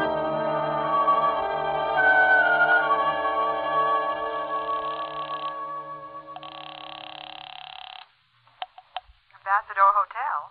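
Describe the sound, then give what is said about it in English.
A telephone being dialed to call a lawyer: a short run of sharp clicks follows a long sustained musical tone that cuts off, and a brief voice begins at the very end. “I'll call him for you. I'll get him on the phone right now.”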